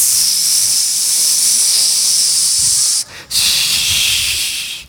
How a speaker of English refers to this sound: And I'm not going to name any names of products, but he gets this bottle in his hand, and he starts to spray it on himself, right?